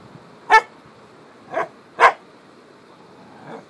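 dog barking

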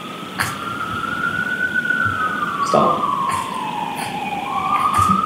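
emergency vehicle siren

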